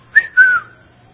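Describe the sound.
A voice imitates the electronic alert a security camera on the corner of a house whistles when someone gets close to it, with two short whistled notes, the first quick and bright, the second longer and sliding downward, with no talking.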